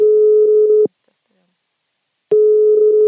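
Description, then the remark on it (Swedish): A telephone ringback tone on an outgoing call made to a businessman to ask for a comment on the Academedia deal: two steady, loud electronic buzzes, each nearly a second long, separated by a silent gap of about a second and a half. “Vi kände oss därför tvungna att ringa honom för en kommentar.”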